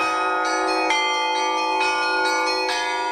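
Church bells peal loudly, struck in a quick, steady rhythm roughly twice a second, their bright tones overlapping and ringing on without pause. No voices are heard.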